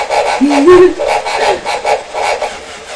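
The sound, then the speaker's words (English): A pig oinks over and over in quick, rhythmic grunts, fairly loud, with a steady buzzy texture and no talking. “He's going oink, oink, oink. Oink, oink, oink. He's a very lovely pig.”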